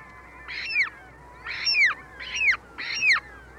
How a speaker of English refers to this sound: Less familiar is a remarkable bird that shares with the polar bear this vital link to ice, the ivory gull.